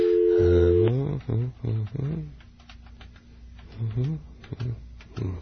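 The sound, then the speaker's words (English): A steady two-tone telephone beep, followed by a run of quick, light keypad clicks as someone dials their grandmother, with a person talking and a faint held tone underneath. “I'm going to try calling my grandmother, see if it's busy again.”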